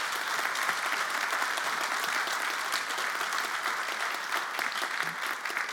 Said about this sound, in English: We're clapping, clap for that.